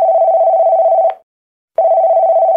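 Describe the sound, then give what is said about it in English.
A telephone ringing on the line as a man tries to call his sister: a steady electronic ring tone sounds for about a second, breaks off briefly, then starts again, clear and fairly loud with no voices. “Elliot tries to call his sister Gertie.”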